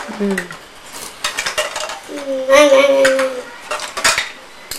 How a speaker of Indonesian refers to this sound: Oh, ini sendok-sendok harus dikumpulkan.